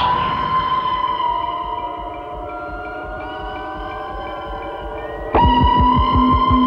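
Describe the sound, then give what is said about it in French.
A deep, guttural rumble, chosen by Scott for the film Alien, that blends an animal-like growl with a spaceship engine's droning hum, pulsing steadily underneath, then surging louder with a heavier rhythmic throb near the end. No voices. “son guttural évoquant à la fois un grondement animal et un moteur de vaisseau spatial”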